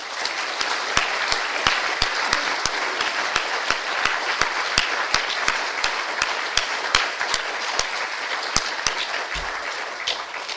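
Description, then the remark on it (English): An audience applauds the speakers after a day of presentations at an event organised by the Bletchley Park team, steadily, dense overlapping claps forming a bright, even wash with sharper individual claps popping out, sustained at a fairly loud level throughout. “And I really do, in a very special way, want to thank all our speakers, and perhaps we can give a round of applause to the speakers.”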